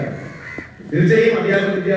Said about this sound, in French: De temps en temps, on entend un oiseau qui passe, c'est un corbeau.